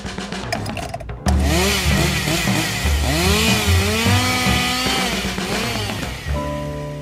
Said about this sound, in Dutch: Daar komt de kettingzaag vandaan.